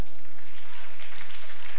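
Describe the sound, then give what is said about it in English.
A crowd applauds steadily, a dense wash of many hands clapping at once that holds at a fairly loud level through the whole short moment, with no voices over it. “Clap for them.”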